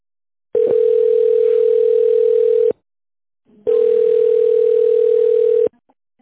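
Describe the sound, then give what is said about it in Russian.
A telephone ringback tone while on hold on the phone line of the company Irving, waiting for an operator to answer: two long, steady, mid-pitched buzzing tones, each lasting about two seconds, separated by a short pause, loud and with no talking. “Пожалуйста, оставайтесь на линии.”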